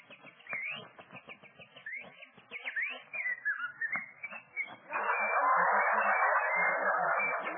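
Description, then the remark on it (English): Birds singing in the trees in springtime in Southern California: a quick run of high chirps and rising whistles for several seconds, then a steady, loud rushing hiss takes over and covers the rest. “Flowers are blooming, the sun is sending down its glorious rays, while the birds are singing in the trees.”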